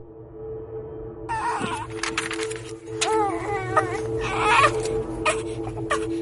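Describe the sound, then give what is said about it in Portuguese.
Several babies cry and wail in short, wavering bursts under the scorching sun of southern Angola, over a steady low background hum, with overlapping cries growing louder toward the end. “Estes bebês desesperados que choram sob o sol escaldante do sul de Angola nunca conheceram o pai.”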